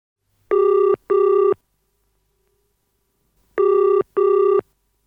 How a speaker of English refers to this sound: Oh, is that my phone? Sorry, it's mine.